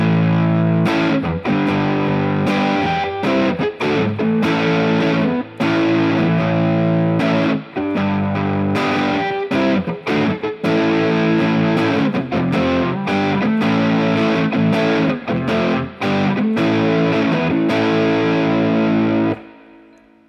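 Electric guitar played through an overdrive pedal with its Moor-Drive channel switched on, heavily overdriven. It plays loud, gritty chords and riffs for about twenty seconds, with dense buzzing harmonics, short choppy breaks between strums, and a hissy sustained tone before it cuts off.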